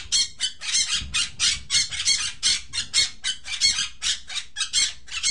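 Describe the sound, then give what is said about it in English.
A pet parrot, one of two (Buster and Munchkin), squawks over and over in harsh, raspy bursts, roughly two or three per second, loud and shrill, with no voices alongside. “We have two cats, Maya and Tori, and two parrots, Buster and Munchkin.”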